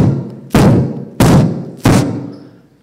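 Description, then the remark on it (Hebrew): Three loud fireworks bursts go off in steady succession, each a sharp boom trailing into a rumbling, echoing decay, with no voices. “איזה זיקוקים. וואו!”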